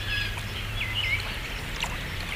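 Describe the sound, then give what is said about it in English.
A babbling brook flows steadily and continuously, with a low rumble underneath and a few small birds chirping faintly in the background. No one speaks. “You're safe. You're in a babbling brook.”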